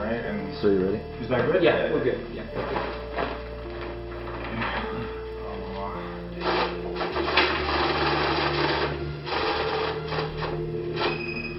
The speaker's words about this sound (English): That noise you're hearing is a money counter. A money counter is about the size of a small printer. There's a tray at the top where you place the bills. And then those bills are sent to a lower tray as they're counted by the machine.